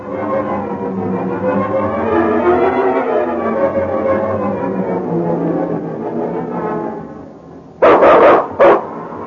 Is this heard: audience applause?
no